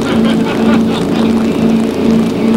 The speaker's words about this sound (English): Meanwhile, as the Greaseman, with 35,000 pounds of fiberglass, 40 miles an hour. Oddly enough, the boat has turned around and is heading for that wedding on the lawn.